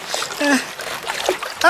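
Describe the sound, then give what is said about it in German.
Water splashes and sloshes over a log in short bursts, with brief voice-like sounds mixed in over less than two seconds. “Das Wasser schwappt über den Stamm.”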